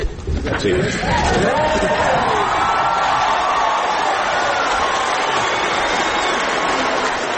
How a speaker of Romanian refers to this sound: Deputații din Camera Inferioară a Parlamentului de la Canberra și apărătorii drepturilor omului prezenți în galeria publicului au aplaudat minute de-a rândul în picioare victoria răsunătoare a promotorilor egalității conjugale